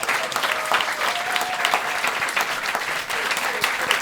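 An audience applauds steadily, a dense patter of many hands clapping at an even, fairly loud level throughout, with a few faint voices mixed in.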